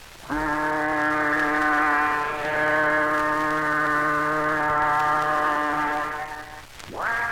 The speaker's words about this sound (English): Yes, we're in Antwerp, and that whistle you've just heard came from one of the countless ships down here at the American docks, along the port of Antwerp.